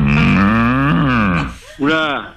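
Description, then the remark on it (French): A cow moos: one long, low, droning call that wavers slightly in pitch, followed after a short gap by a briefer second moo that rises then falls. Loud, with no talking. “Oula, là, je viens d'entendre une vache, là.”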